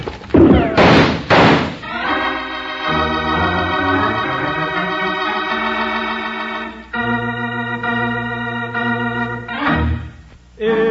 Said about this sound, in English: Yank open the door, Jingles, and duck. Okay, here goes.